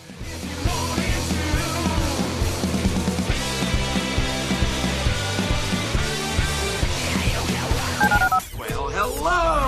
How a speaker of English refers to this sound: Dial the phone.